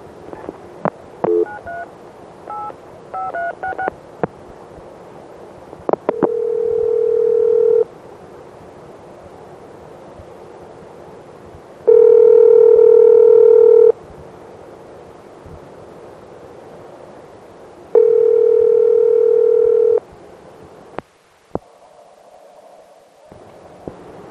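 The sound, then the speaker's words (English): A telephone line plays quick dialing tones, then an electronic ringback tone from an Electronic Switching System (ESS) exchange sounds three times in long, steady buzzing bursts separated by silent pauses, with a click and faint line noise at the end. “One very important ringing tone I forgot to put on here is ESS, Electronic Switching System, and here's one for you now.”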